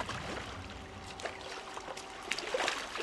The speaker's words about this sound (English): Farmed salmon and trout are raised in pens in the near-pristine fjords that crease the western coast. Fjords like Helmeland, where a short boat ride will take you out to a floating platform.